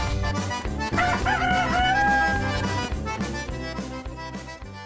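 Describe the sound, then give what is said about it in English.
A mixed flock of Salmon Faverolles chickens, a French feather-footed breed with beards and muffs, fills the space with steady, busy clucking, and a drawn-out crow rises over the group near the start before the chatter continues. “We're listening to Mixed Flock Part 3, Salmon Faverolle.”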